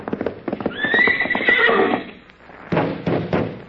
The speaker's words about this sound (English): that's a nice horse you got there